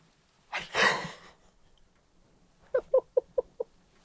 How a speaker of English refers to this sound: Most badly timed yawn in my life.